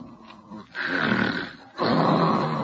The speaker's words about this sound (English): Holy smoke, she snores. Oh, no, she never told me about this. With a whistle yet.